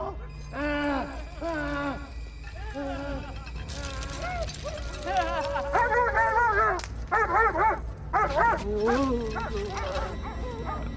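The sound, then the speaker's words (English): Several dogs in a mental home bark and yelp excitedly in quick, overlapping bursts, with high, whining yips rising and falling over a steady low hum throughout. “Dogs start barking.”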